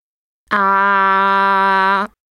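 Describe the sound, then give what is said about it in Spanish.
A patient holds a steady, loud open-mouthed "ahh" vowel for about a second and a half, voiced and even in pitch, then stops abruptly, saying ah at a doctor's request for a throat examination. “Abra la boca. Saque la lengua, por favor. Diga ah.”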